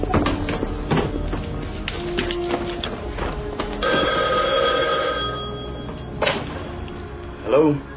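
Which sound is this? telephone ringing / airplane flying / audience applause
telephone ringing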